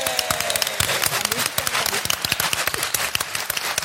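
An audience claps steadily, a dense patter of many hands filling the whole stretch at a lively, even level, with a few louder individual claps standing out.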